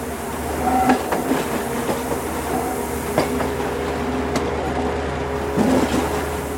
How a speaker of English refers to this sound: We're passing another train. That's exciting. It's red.